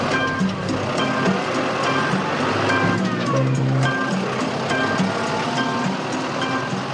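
old tractor engine running

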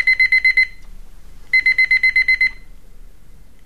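alarm clock ringing

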